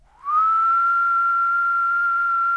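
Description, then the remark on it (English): A person whistles a pure-tone call imitating a Decim cicada: a single loud, steady tone that slides up briefly at the start, then holds unbroken for over two seconds, with the female click made using the fingers. “And then that's the female click. And I'm whistling that and I'm doing it with my fingers.”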